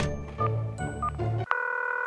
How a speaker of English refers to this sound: I picked up the phone and called Nerf.